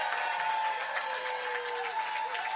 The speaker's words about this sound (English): Before we find out the grand champion, can we just have one more round of applause for every single artist who was on this stage today?